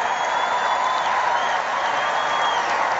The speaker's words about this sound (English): And you got the cheering crowds and everybody's really excited.